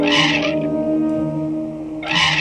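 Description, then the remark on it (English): An elephant makes a high-frequency call: a loud brassy trumpet blast at the start, a sustained harmonic tone through the middle, then another harsh trumpeting burst at the end. “With vocal cords 8 times the size of ours, elephants send out 2 types of sound waves at once. There are the high-frequency ones.”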